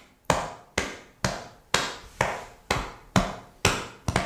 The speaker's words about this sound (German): Wir sitzen gerade, der Brustbeat klingt wie so eine Bassdrum, so ein bisschen dumpf. Ich mach's mal vor.